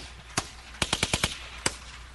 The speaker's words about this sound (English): He also has a song about rifle bursts, and I think you'll enjoy this. It's the hardest beat. This is the hardest beat anybody's ever heard. It's made out of gunshots. Gunshots are the beat.